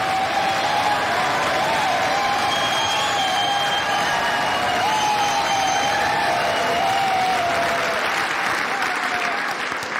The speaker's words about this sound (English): Thank you for that very generous applause.